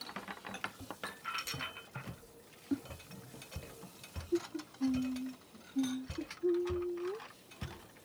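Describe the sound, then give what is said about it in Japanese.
Plates clatter and clink as they are carried over to be washed and set down: a string of light knocks and clicks, then several brief, ringing scrapes of ceramic, with no talking. “それじゃあ、私洗うから、お皿だけ持ってきて。”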